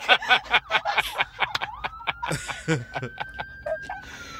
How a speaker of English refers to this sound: And again, ambulance. We can edit this out, right?